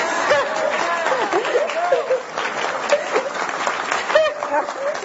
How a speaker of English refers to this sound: Now, could you give me some applause for knowing that?